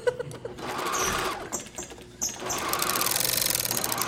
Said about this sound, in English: This is a straight stitch. That is a hem machine. That is a leather machine.